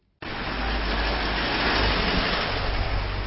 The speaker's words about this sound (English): Traffic is heavy on Prague's Nusle Bridge, which connects the city to one of the country's busiest motorways via a 6-lane highway.